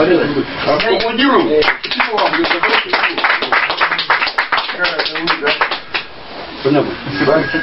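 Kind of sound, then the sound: crowd, hand clapping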